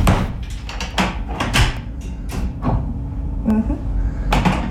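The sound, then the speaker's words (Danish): A cell door is shut and locked, with a series of sharp clicks and knocks from the latch and handle, plus a brief metallic rattle, over a murmur of background voices. “Ja, kan du prøve du så ikke at låse døren?”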